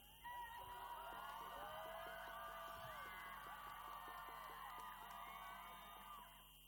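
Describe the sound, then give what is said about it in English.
A large outdoor crowd in Winnipeg, Canada, roars and cheers continuously as a statue of Queen Victoria is pulled down outside the provincial legislature on Canada Day, with overlapping shouts and whoops rising above a dense wall of voices, sustained loudly for several seconds before easing slightly at the end. “The crowd chanted slogans against the killing of over 4,000 children as the statue fell outside the provincial legislature.”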